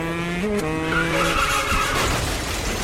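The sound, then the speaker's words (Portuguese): A car engine revs hard with a rising whine as tires screech loudly across the pavement, a continuous burst of speeding and skidding with no voices. “Vivia acelerando, voando, vivia encontrando espaços entre os carros.”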